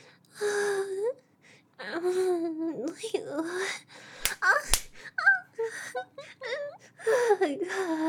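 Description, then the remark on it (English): Two sharp, loud slaps across the face, delivered by a woman, land in quick succession, surrounded by a voice gasping, whimpering and moaning before and after the hits. “Why'd you make her slap me?”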